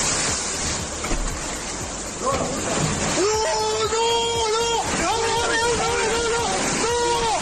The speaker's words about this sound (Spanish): La escena realmente sobrecoge. Es de Covisa, en Toledo. Son los gritos desesperados, los gritos de impotencia de un joven de 20 años que ve como el agua revienta las puertas de su casa, tira un muro y desborda sin remedio el jardín y la vivienda.